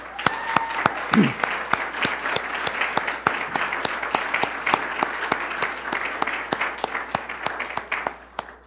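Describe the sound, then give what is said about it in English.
An audience gives the evening's performers a steady round of applause, a dense wash of many hands with a few sharp, evenly spaced claps standing out, sustained for several seconds before tapering off at the end. “And so would you please give our performers tonight a round of applause?”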